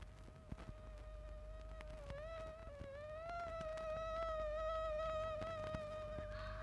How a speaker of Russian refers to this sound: Что это? Комары? Да-да. На смену мухам прилетели комары. Господи! Они ни на минуту не умолкали, зудели и кусались и зудели.